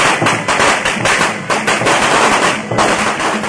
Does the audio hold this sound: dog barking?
no